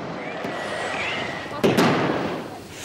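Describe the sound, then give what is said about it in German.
A few sharp fireworks bangs go off, one early and two close together later, over a steady hiss of crackling and murmuring voices in the background. “dass man zu viel Alkohol getrunken hat, dann sollte man das Knallen auch anderen Leuten überlassen.”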